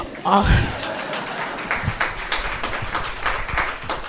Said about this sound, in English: Okay, all of, you can clap.